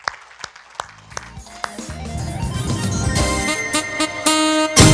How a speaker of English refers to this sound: Let's give a hand clap to God, man.